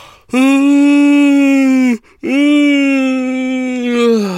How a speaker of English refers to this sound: Oh, big old yawn, and that's me done.